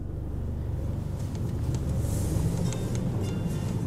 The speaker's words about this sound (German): An einem milden Herbstabend sind wir mit dem Auto in München unterwegs.